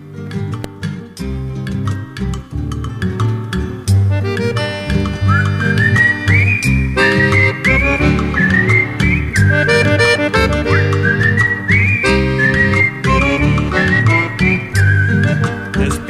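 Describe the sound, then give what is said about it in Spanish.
Full, steady music plays throughout at a strong level, with a bright whistled melody rising and gliding above a rich harmonic accompaniment and a warm low end. “Bueno, vamos a hacerlo así, vamos a un poco de música”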